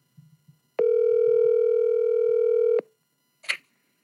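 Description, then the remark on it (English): A steady telephone dial tone, heard while a call is being placed, hums clearly for about two seconds, bracketed by faint low thumps before it and a short sharp click-like blip shortly after it stops. “Let's just switch to the phone, because I don't know why it's still in and out.”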